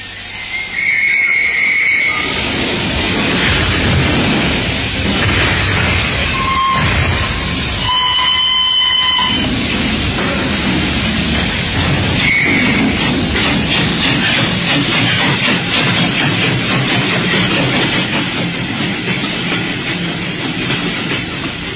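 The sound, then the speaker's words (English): A train pulls out of Paddington station with a couple of high whistle tones early on, then a steady, loud rumble of wheels and carriages rolling on for the rest, with no voices. “Sped out of Paddington, I looked back at the tall, austere figure of Holmes gazing after us.”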